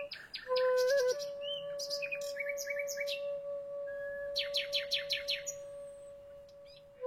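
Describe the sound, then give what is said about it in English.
Nightingales sing varied phrases of rapid repeated chirps, whistles and trills, loud, over a steady sustained low tone that holds throughout, in a nocturnal concert performed with musicians and broadcast on BBC Radio 3. No one speaks. “A wild and remarkable performance between musicians and songbirds.”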